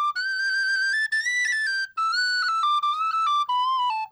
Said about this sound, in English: Now, this whistle, I must say, I ordered special from Michael Burke to play with Kim